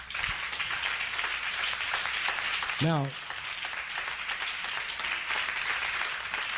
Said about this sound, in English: Come on. Give God a hand clap.